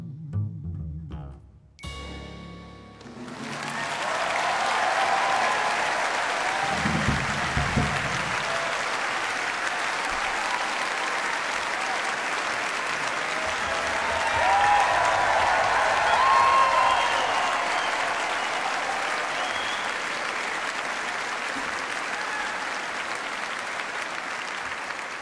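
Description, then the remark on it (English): A final musical note from an orchestra cuts off, then a large audience breaks into loud, sustained applause that holds steady for over twenty seconds, with a few faint whistles rising above the clapping. “Before we close tonight, I do want to take a moment and indulge in one more hearty round of applause for the finest orchestra in the land, the ….”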